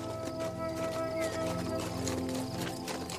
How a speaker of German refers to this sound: Und in der Ferne hörst du das rhythmische Klappern von Pferdehufen auf dem steinigen Weg, vermischt mit dem leisen Zirpen der Grillen.